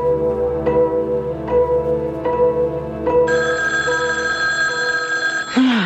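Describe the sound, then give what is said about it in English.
A telephone rings loudly, its bell striking in a quick regular pulse before settling into a sustained, shrill ring. No one speaks. “All right. Let me answer it. Just hand over the phone, huh?”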